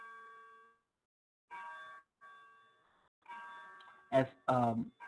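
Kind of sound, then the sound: household object, cuckoo clock chiming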